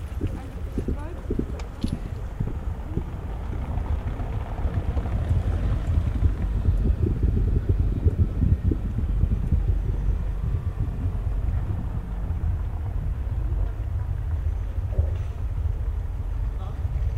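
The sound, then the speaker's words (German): A deep, muffled rumble of a passing car, picked up as vibration by a vibration-sensitive microphone on the ground, swelling slightly midway, with scattered soft knocks and taps over a steady low drone. “Das Mikrofon ist sensibel für Vibrationen. Es registriert vorbeifahrende Autos, Fahrräder und Schritte im Umkreis mehrerer Meter.”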